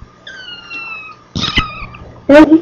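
A kitten gives a few high, thin meows. A drawn-out cry comes first, then a short squeaky call, and finally a louder meow.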